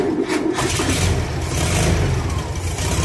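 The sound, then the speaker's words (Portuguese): A Volkswagen Beetle's small engine cranks and catches, then settles into a steady, mid-pitched rumbling idle with a slight rev, heard alone without any voices. “Essa batida seca de motor é inconfundível. É do carro mais popular da história da indústria automotiva global, o Fusca.”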